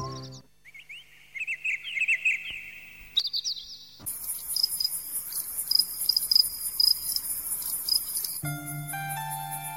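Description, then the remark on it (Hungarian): Crickets chirp in quick rhythmic bursts, then a dense, shrill insect trill swells in and continues steadily beneath repeated chirps, with no voices. “Kis tücsök, minden este itt ülök, álmosan hallgatom, hogy zenél a cimbalom.”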